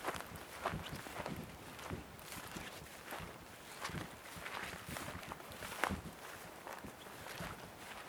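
Steady footsteps crunch along an outdoor path at a walking pace as someone walks toward a corner, fairly quiet, with a soft rustling background and no talking.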